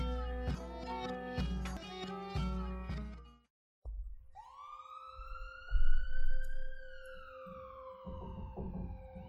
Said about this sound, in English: It's been 8 months since the incident, and I'm still hearing sirens in my sleep.